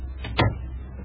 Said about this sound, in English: Shut the door